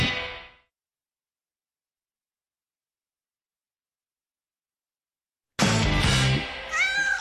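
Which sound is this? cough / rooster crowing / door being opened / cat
cat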